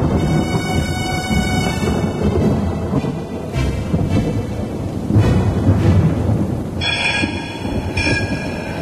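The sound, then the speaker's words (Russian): A loud, continuous thunderstorm over Moscow: deep thunder rolls and rumbles throughout, swelling at moments, over a steady wash of rain. No one speaks. “Гроза омыла Москву 29 апреля, и стал сладостен воздух, и душа как-то смягчилась, и жить захотелось.”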